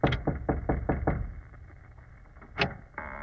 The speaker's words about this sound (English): Well, here's the door. Knock. You know, it may be suicidal. We don't know what's on the other side of this door.